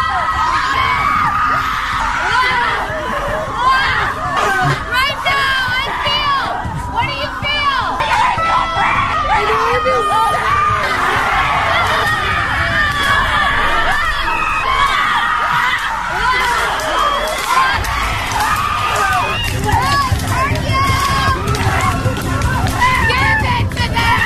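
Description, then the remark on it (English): A group of women at a rage ritual retreat scream and wail over one another nonstop, with steady thuds of sticks bashed on the ground underneath, forming a loud, chaotic wall of sound for the whole stretch. “Women spend $4,000 to bash sticks on the ground and scream at a rage ritual retreat”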